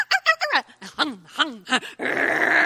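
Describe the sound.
A voice imitates a friend's small dog charging up at a visitor arriving at the house, fairly loud: a quick run of high, yappy barks and whines, then a sustained raspy growl at the end.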